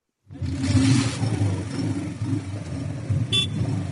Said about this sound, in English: A Boda Boda driver raises the engine of his motorbike to attract attention near the Torit Civil Hospital. Boda Boda drivers do all they can to draw the attention of potential clients, including honking, whistling, or yelling.